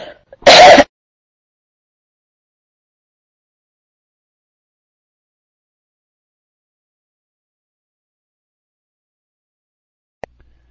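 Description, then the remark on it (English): A single loud, rough cough or throat-clear bursts out near the start, followed by near silence and a faint click toward the end. “That cough doesn't sound good.”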